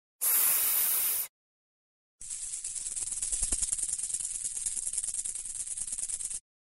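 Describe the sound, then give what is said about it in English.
A snake in the jungle hisses twice: a short, sharp burst, then after a brief pause a longer, steady hiss with a slightly crackly texture lasting several seconds. Fairly loud, with no talking. “What could it be? Look, over there, a snake is looking for his tea.”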